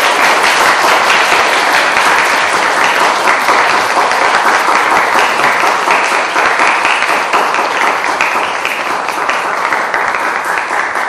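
A church audience breaks into steady, loud applause to bless and congratulate a fellow church brother, dense overlapping claps sustained evenly for about eleven seconds with no voices standing out.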